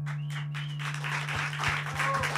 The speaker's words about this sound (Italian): Applausi, bravissimi, bravissimo.